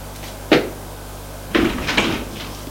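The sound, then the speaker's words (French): A woman opening a bedroom door: a sharp click, then after a brief pause a quick run of clunks and rattling knocks, moderately loud, with no voices. “Elle ouvre une porte éclair. Voici la chambre. Ils entrent.”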